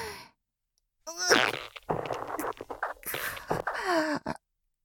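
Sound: fart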